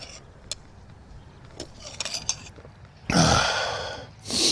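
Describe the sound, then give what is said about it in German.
A raspy coughing fit: after a few seconds of quiet breathy sounds and small clicks, two loud, harsh bursts of coughing break out, the first longer than the second. “Ja, die Husterei geht gerade wieder los.”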